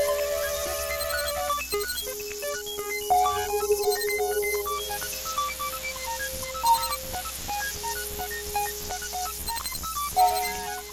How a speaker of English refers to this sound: Okay, what are all the little sounds we're hearing that are kind of reminiscent when put all together of cicadas, but maybe digital cicadas?